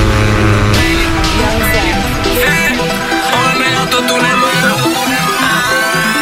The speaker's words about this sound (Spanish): Arranquen los motores, ha llegado la hora de pisar el acelerador.